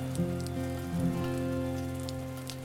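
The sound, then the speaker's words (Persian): Steady rain patters and hisses continuously at a moderate level, with occasional sharper drips, layered over a soft sustained musical drone; no one speaks. “چندان که آسمان سقفی از پنبه های خاکستری ابر می شود و باران زمزمه می کند”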